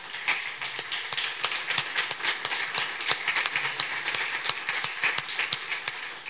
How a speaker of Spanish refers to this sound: Vamos a ponernos de pie, por favor. ¿Qué tal si damos un aplauso grande al nombre del Señor?